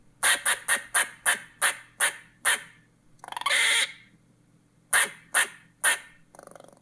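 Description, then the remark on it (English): A squirrel gives a rapid series of sharp, barking chirps, then a harsh buzzing rasp and a few more chirps. The calls are clear, with no talking. “This is what a real squirrel sounds like.”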